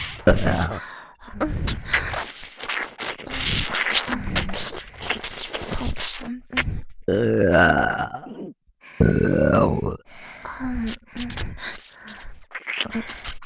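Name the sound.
burping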